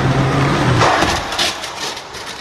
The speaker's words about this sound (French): Le scénario est simple, une voiture lancée à 50 km/h percute une trottinette électrique qui a grillé un feu ou un stop, et voilà l'impact.